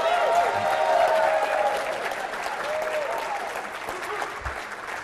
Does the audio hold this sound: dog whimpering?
no